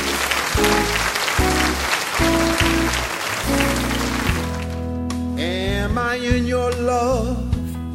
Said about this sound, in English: Please give her a nice round of applause.